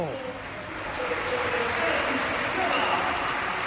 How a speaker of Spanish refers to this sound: Es tremenda la imagen, la ovación, y los futbolistas de la Real y del Real Madrid haciéndole pasillo a una leyenda, no del Madrid, a una leyenda del fútbol mundial, Luka Modric.